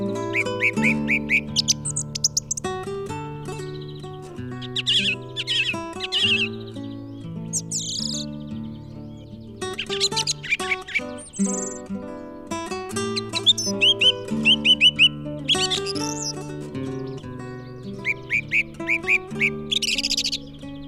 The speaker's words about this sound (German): Das war die Singdrossel.